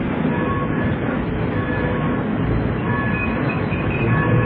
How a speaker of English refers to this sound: In desolate Midwestern darkness, a signal light moves. And a passenger train starts to slow down.